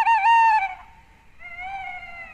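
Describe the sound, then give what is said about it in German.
An eerie nocturnal forest call of a tawny owl: two drawn-out, tonal hoots, the first loud and wavering, the second steadier and slightly softer, heard clearly with no voices. “Das ist ein geheimnisvoller Ruf. Ein bisschen unheimlich auch. Klingt nach Wald und nach Nacht.”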